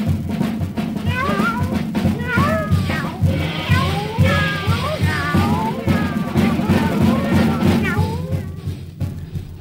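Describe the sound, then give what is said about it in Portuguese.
Many cats meow over one another in a dense, overlapping chorus that runs almost the whole time, with a steady rumbling background noise beneath, fading out at the very end. “Vamos com mais uma de gato aí, Fontana.”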